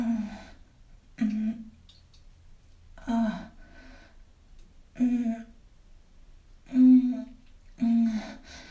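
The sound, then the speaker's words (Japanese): Six short, strained vocal grunts of someone pushing to defecate on an office toilet during a lunch break, coming at a steady pace, each a brief voiced push of effort with quiet pauses between, fairly loud with no talking. “こんな声絶対会社の人に聞かれたら、なんか心配されそう。生まれそうみたいな。”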